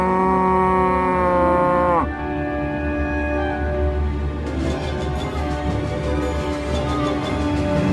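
A cow lets out a long, loud moo that sags in pitch after a couple of seconds, then keeps lowing more roughly over a noisy background.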